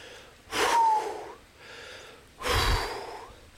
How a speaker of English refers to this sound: I'm walking uphill and breathing like this. Give you an idea of what we're doing.